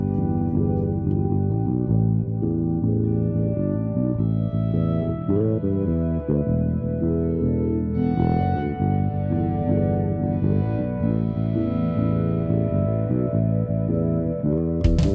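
A local hip hop song intro from an EP, played as a preview before the album: a loud, steady instrumental beat with a thick low end and layered, effect-heavy melodic tones, no vocals yet.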